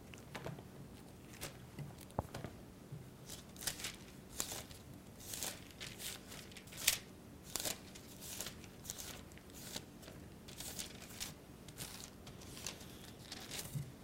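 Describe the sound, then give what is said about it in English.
Thin Bible pages being turned to Numbers chapter 21, a long run of soft papery swishes and crinkles coming in irregular bursts, with no talking over them. “Now turn over to Numbers chapter 21.”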